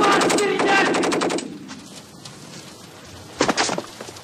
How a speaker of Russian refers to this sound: Сквозная автоматная очередь с той стороны убивает обоих. Их оттаскивают от дверей.